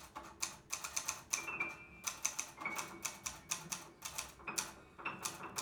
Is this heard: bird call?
no